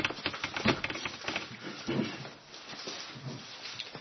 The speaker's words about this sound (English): I think it's partly because of the door being open, but I'm finding that the Bible I'm using is not turning the pages very easily, so I'm going to use a different one.